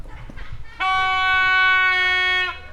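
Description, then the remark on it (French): A foghorn, blown as the gathering signal at l'Archipel to call young people together, sounds one long, loud, steady blast lasting nearly two seconds, rich and brassy, following a moment of low background rumble, then cutting off. “La corne de brume du rassemblement.”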